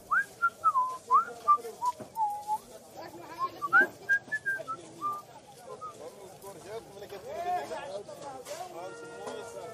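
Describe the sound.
A man whistles a casual, wandering little tune to himself for several seconds as he walks on from a stall vendor, clear, over a busy background of crowd chatter and murmuring voices that carries on after the whistling fades.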